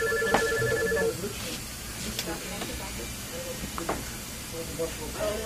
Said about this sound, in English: Richmond phone rang. I think it interrupted it.